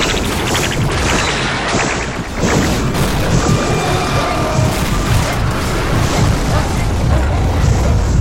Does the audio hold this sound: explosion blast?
yes